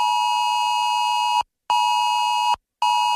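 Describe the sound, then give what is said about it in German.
A loud, piercing electronic emergency alert tone blares from many mobile phones in long steady bursts separated by short gaps of silence, a harsh multi-toned warning signal with no voices, as sent on Germany's nationwide warning day on 14 September. “So klingt's dann am Donnerstag in 2 Wochen wieder von vielen Handys.”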